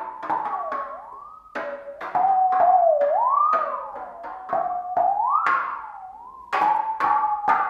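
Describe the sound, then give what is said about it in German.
A saw is struck repeatedly with mallets used in place of violin bows, each hit a sharp metallic ping that rings into a wavering tone bending up and down in pitch, strikes coming in a quick, uneven rhythm. “Dafür werden die Geigenbögen durch Klöppel ausgetauscht, mit denen sie jetzt auf die Säge klopfen.”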